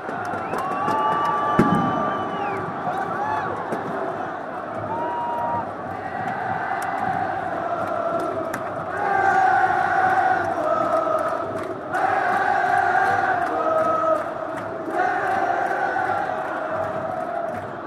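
A huge football stadium crowd at the Maracanã roars and chants in unison, the sustained cheering swelling in loud waves with sung, rhythmic chants rising above a constant wash of voices.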